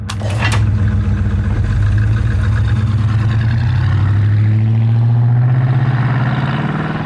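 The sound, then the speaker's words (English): A muscle car engine rumbles loudly through a throaty exhaust, revving so its deep growl climbs in pitch before easing slightly at the end. No one speaks. “Some muscle cars, like the 1970 GTO, had an option where you could pull a little lever and make a louder noise.”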